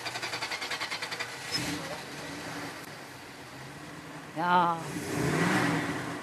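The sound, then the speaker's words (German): A Monteverdi car engine chugs in a fast, steady pulse, then roars up into a louder, rushing rev, with a short spoken word breaking in just before the surge, on the Bürgleplatz. “Wir hören aber noch mal in den Motor rein von diesem Monteverdi.”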